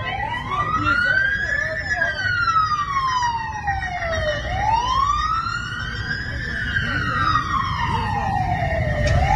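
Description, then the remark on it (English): Loud emergency vehicle siren wailing in slow, sweeping rises and falls, about two full cycles, at a fire in Arcadia where a truck bed was engulfed in flames, with a steady low rumble of engines and commotion underneath. “And right here, right where you hear those sirens stop in this video, they pan over and what you see is this truck bed, this manager's truck bed, completely engulfed in flames.”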